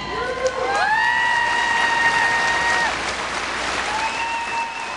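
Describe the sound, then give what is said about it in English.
Hundreds of family members in a gymnasium cheer and applaud steadily throughout as soldiers returning from Iraq come to attention, a dense wash of clapping with shrill, sustained whistles rising above the din. “As they come to attention, hundreds of their family members cheer them home.”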